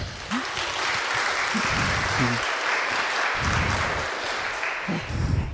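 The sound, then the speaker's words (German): Steady, dense applause from an audience welcoming the speakers of a talk on cable car technology, a broad crackling wash of clapping that stays loud for several seconds, with a few faint voices mixed underneath. “Bitte begrüßt mit einem großen Applaus für den Talk.”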